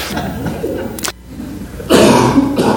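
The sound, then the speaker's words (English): A man coughs: a short sharp hack, a brief pause, then a longer, harsher run of strained coughing with breathy, effortful rasps. “He's coughing and make me want to cough.”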